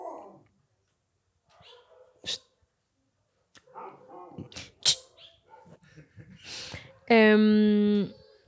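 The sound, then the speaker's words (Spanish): A dog barks near the end with a single loud, drawn-out, tonal cry lasting about a second, after quieter voices and a few sharp, brief sounds; many dogs are barking a lot. “Ay, están ladrando mucho perro.”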